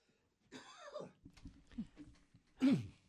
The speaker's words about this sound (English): Got all choked up for that, huh? Something got stuck in there. Well, I'll let you clear your throat.